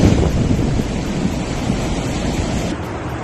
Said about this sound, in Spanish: Una de las más afectadas en el día de hoy ha sido la localidad murciana de Águilas. En tan solo media hora, todas sus calles se han convertido en auténticos ríos.